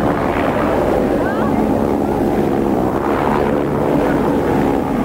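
Helicopters fly over the police-controlled prison area of the city of Parra, producing a loud, steady rotor-and-engine drone that fills the whole stretch without letting up, with an indistinct murmur of voices underneath.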